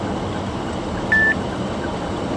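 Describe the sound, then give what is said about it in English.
One short, clear electronic beep from a phone-type timer set to beep every 4 seconds, used to time passing posts while driving at about 70 km/h, sounds midway through, a steady high tone cutting over a constant low road and engine rumble. No voices. “that means the beeping is going every 4 seconds”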